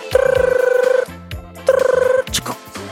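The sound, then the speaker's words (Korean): A telephone rings twice as a radio show host connects a listener's call, each ring a fast electronic trill, fairly loud, with a pause between them and some faint low tones underneath. “네, 전화 연결해 볼게요.”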